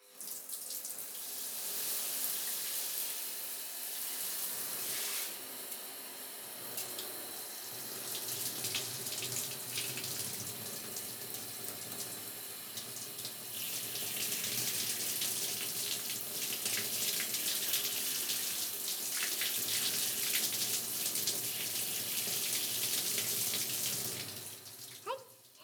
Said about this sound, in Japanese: 弟くんの頭、シャンプーで泡泡だよ。じゃ、シャワーで洗い流すからしっかり目はつぶっててね。